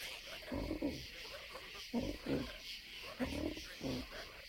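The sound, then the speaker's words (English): A big frog named Melrose croaks in deep, raspy bursts, about half a dozen low guttural calls in irregular pairs over a steady background hiss. “I think that's the biggest frog I ever saw.”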